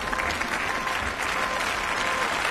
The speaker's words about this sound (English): The applause was loud, but not as loud as it might have been. Last night, Ursula von der Leyen became the first woman to be appointed president of the European Commission, after a secret ballot by members of Europe's Parliament.